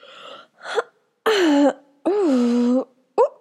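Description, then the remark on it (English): An exaggerated fake yawn, made while watching a movie as the yawner wraps an arm around someone's shoulder: a couple of short breathy gasps, then two long, loud, drawn-out voiced groans with a dipping and sliding pitch, ending in a quick breath. “I thought that was obvious from the big fake yawn and my arm wrapping around your shoulder.”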